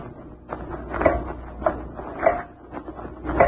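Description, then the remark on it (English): A door at home is opened at almost midnight, giving a series of short wooden creaks and knocks spaced about half a second apart, with no voices. “But when I opened the door, I saw the light was on in the bedroom.”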